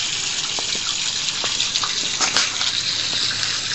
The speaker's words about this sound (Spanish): Este agua es como un bello surtidor, pues sale a presión, baña todo el alrededor de la fuente, que es un bonito jardín, bastante bien cuidado, donde hay plantas. Estas se ven salpicadas por el agua que emana con fuerza